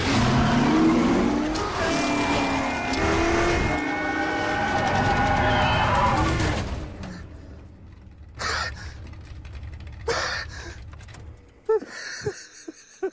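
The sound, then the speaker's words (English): A race car engine roars loudly and climbs in pitch as it accelerates for several seconds, in a film scene where Henry Ford II, played by Tracy Letts, rides in a car going very fast; then it cuts off, leaving quieter breathy gasps and a few short, sharp bursts. “You cast Tracy Letts as Henry Ford II, and there's a scene that I will just say where Henry Ford II is in a car going very fast.”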